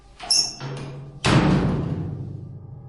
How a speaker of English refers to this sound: Dropping the large metal hatch, sealing us away from the thing approaching. After a few seconds, the door rang with a loud thud, and then another. We all jumped with each hit.